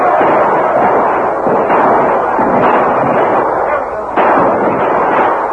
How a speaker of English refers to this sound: The outburst of shots and the continuing fire took the Indians by surprise.